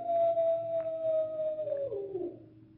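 Wild dogs howling: one long, drawn-out howl holds steady, then slides lower and fades over a few seconds, with faint rough noise behind it and no talking.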